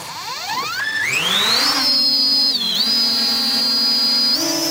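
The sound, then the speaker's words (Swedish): A Swedish Armed Forces military drone, the model called Skatan, whines up steeply in pitch over about two seconds, then holds a loud, steady high buzz with a brief dip and a slight rise near the end. No voices. “Just den här modellen som hörs i bakgrunden går under namnet Skatan.”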